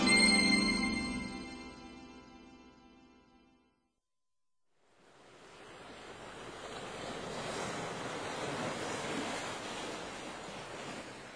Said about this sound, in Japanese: 人気のない波打ち際に私は立っている。どこまでも広がる砂浜、寄せては返す波音、遠く遠くに見える水平線。